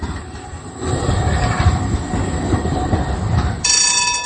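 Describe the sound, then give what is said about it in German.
A tram rumbles steadily along its rails through central Prague, Czech Republic, with dense low rolling noise and a bright, tonal wheel squeal rising near the end; no one speaks. “In Prag fährt seit Dienstag sogar eine Kafka-Tram.”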